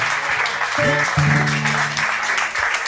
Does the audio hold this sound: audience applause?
yes